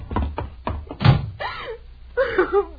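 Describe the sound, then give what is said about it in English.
A few sharp clacks lead into a heavy door thudding shut, loud, as if latched and locked. A raised voice follows right after. “unlock this door. We still may be able to stop him.”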